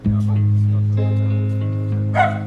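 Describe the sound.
The singer's dog barks once, briefly, near the end, cutting through sustained music with a held singing voice and steady low tones.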